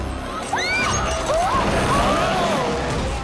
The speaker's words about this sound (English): Emily brings the scenery crashing down.